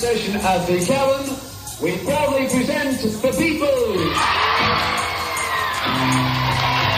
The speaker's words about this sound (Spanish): El Club de la Caverna, bueno, pues este sonido es del 22 de agosto ya de 1962, en ese mismo club. Ya se escuchaban algunos gritos de los fans por ahí, pero nada en comparación con lo que vino después, a partir de 1964.